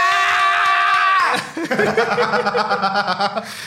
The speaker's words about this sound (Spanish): No me esperé ese grito, maje, pero lo sentí, maje, lo sentí.